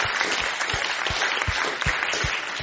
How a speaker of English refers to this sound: Yeah, an applause.